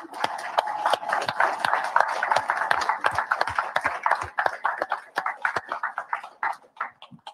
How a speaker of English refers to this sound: if you're an AC, BC, CC, or you're a PSD student, and you're either any of our terminals, Salt Lake, Pittston, or here in Springfield, if you could please stand, we'd love to give you a round of applause for coming on.